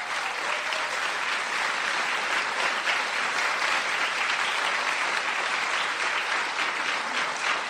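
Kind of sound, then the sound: crowd, applause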